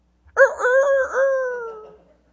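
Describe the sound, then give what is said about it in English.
A single loud rooster crow rings out, rising sharply then holding a long, wavering note that slowly falls away, with no voices or other sounds around it. “And then Jesus turns to Peter and he said, Peter, before the rooster crows twice, you'll deny me three times.”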